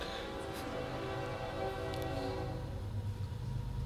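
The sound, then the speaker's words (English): A train rumbles past, its horn sounding in long sustained blasts over a steady, continuous roar of rail noise, with no voices. “I wondered when I was going to hear that train.”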